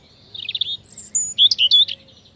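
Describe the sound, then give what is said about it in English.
A European robin, also called robin redbreast, sings a short, high, liquid phrase of warbling notes and thin whistles, shifting in pitch with quick trills, over a faint low hum. “Like the American robin, the European robin is a bird of yards and gardens and has a red-orange breast, so it's often called robin redbreast, or just robin.”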